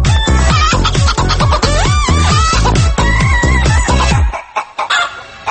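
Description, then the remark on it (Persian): An upbeat electronic dance track with a steady, thumping beat, built around sampled chicken clucks and rooster calls that repeat loudly across the groove before the music drops out near the end. “آقا خروسه ناراحت شد، خیلی بد نگاه کرد به ما.”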